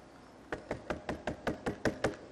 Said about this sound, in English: a knock on my bedroom door, and it was my mom yelling at me, "You're late! Get up for school!"